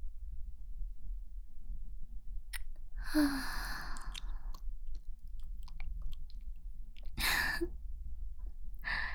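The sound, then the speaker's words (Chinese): Two heavy, breathy gasps, fairly loud, separated by several seconds of quiet with a low steady hum underneath; no one speaks. “如果听不到这样的喘息，就太浪费了。”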